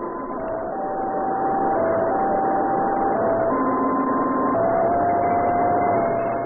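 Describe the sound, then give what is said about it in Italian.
A two-tone signal sent by a satellite, resembling a French fire engine siren, alternates between a higher and a lower pitch in long steady notes, sounding continuously for several seconds over a loud, muffled wash of noise, with no voices. “Questo è presso poco il suono della loro sirena.”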